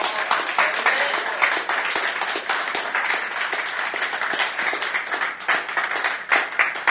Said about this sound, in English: Clap your hands for the Lord.